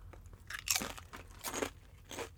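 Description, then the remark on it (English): Crisp crunching as someone chews fried-egg-flavored potato chips, with four or five sharp crackly bursts in an uneven chewing rhythm and no talking. “Third bite, I'm into them. It took that long. I just like chips and salt.”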